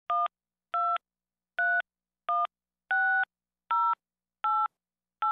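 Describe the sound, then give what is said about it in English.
Eight short telephone keypad tones beep in an even rhythm, each a brief two-pitched electronic chirp, as a telephone number is punched in on a call to Global Bank's phone line. No voices are heard. “To assist you with your call, please enter your telephone number.”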